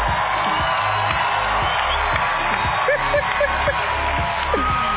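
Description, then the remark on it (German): A dense, steady wash of crowd noise with cheering and scattered whoops, sustained for several seconds at a loud level, with shouting voices mixed into the roar. “Heute dürfen wir einen dicken Applaus einfach nach alle Gurten in Rhein-Köhe.”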